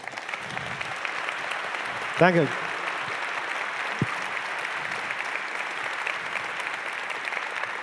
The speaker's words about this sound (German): Also einmal großen Applaus